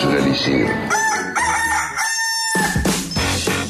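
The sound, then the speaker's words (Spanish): A rooster crows loudly in a long, strained cock-a-doodle-doo with bright harmonic tones, followed by a second shorter crow, played as a mobile phone ringtone on a Nokia phone, a ringtone sent in by a radio listener, with some background clutter. “Un ringtone que nos envió un oyente que lo estaba ya poniendo como en mi celular.”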